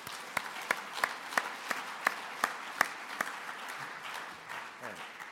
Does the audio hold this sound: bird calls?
no